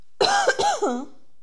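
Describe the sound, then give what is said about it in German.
A loud cough with throat clearing, a few rough harsh bursts over about a second, with no talking during it. “Ich muss einmal husten.”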